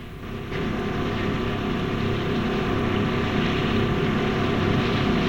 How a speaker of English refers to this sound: The boat soars across the ocean.